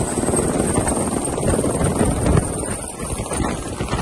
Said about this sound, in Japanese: クイーンズランドのサトウキビプランテーションの上をヘリコプターが低空飛行し、この非常に有害な侵略者の餌を投下しています。